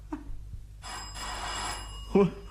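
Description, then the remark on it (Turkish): A doorbell rings in one sustained electric burst of about a second, bright and buzzing with steady high tones, followed by a short voice right after it stops. “Kapı çalınıyor.”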